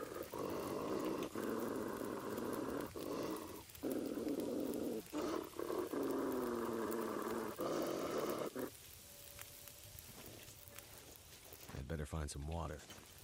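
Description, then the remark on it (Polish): A wolf growls loudly in several long, rumbling bursts with brief pauses between them, then the snarling stops and the scene goes quieter. “Wiem, że ogień odpędza wilki.”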